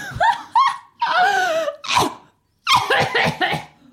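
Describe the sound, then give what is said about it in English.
A woman coughing in harsh fits: a few quick hacks, a long strained wheezing stretch, a single loud cough, then a brief silence before a final run of rapid coughs. “Didn't sound very healthy, did she? Could do with some cough mixture.”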